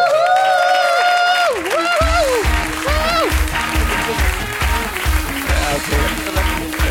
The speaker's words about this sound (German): dein Applaus.